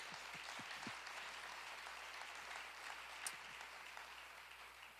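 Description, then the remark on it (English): An audience gives the Lord a hand clap of praise, a dense wash of many hands clapping at once, sustained and even throughout without anyone speaking. “If you believe that, would you just give the Lord a hand clap of praise?”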